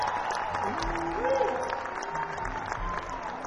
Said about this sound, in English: Let's give him a nice round of applause.